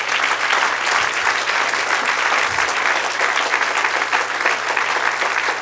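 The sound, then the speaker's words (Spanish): An audience applauds steadily for several seconds during a sermon, giving the applause to Christ: dense clapping at a constant, fairly loud level with no voices standing out. “Denle un aplauso a él.”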